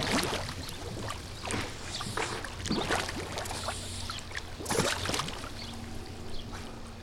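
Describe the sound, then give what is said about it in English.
Muffled underwater bubbling and gurgling in a swimming pool while a pool is fixed underwater in Phoenix, with irregular bursts of air and splashing over a steady low hum, continuous with no talking. “fixing a pool underwater.”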